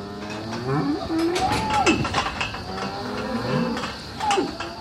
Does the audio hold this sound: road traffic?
no